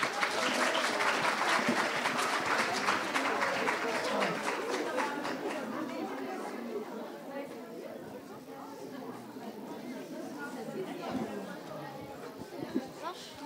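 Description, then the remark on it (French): An audience applauds the students of the Collège Victor Prouvé, a dense wash of many hands clapping loudly at first, then gradually thinning out while crowd chatter and voices continue underneath. “Et pour terminer ce présentoir, je vous demande d'applaudir le collège Victor Prouvé.”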